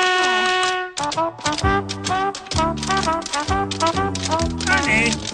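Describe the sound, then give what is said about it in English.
Quick, rhythmic tapping clicks of sheep tap dancing on Sesame Street, mixed with a sung, tuneful voice that holds notes over the steady patter. “Honey, those sheep are tap dancing.”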